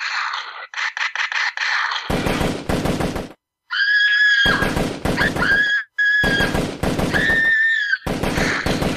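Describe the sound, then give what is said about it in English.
Loud bursts of rapid gunfire rattle off in quick volleys, separated by short pauses, with shrill whining tones weaving between the bursts. No one speaks. “Gunshots everywhere.”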